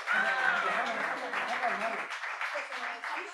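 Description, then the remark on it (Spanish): An audience claps steadily for a few seconds for volunteers who completed a puzzle, the applause dense and continuous, with scattered voices and a cheer rising over it before it thins slightly. “Pues damos un aplauso para ellas ahora.”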